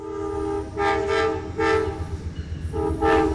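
passing train

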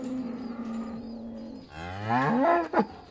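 cow mooing

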